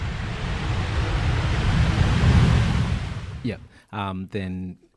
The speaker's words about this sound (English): If we're going to end our world tour there, and I'll just hang on, I'll just pause for a minute. Plane landing sound.